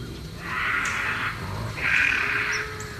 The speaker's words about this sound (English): That's bobcat? Is that you getting sound effects or is that an actual... No, remember we actually played this with the bobcat screams and people were freaking out